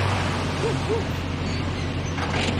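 A pickup truck's engine rumbles steadily with a low, droning hum and a couple of brief creaks as it drives down the road, then a soft hiss near the end as it stops on the left.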